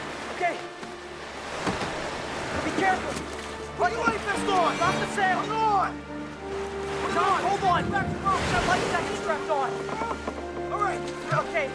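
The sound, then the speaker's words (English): Ocean surf rolls and crashes steadily while wind blows across the open water as a raft is pushed into the water, with voices calling out over the rushing noise. “They push the raft into the water.”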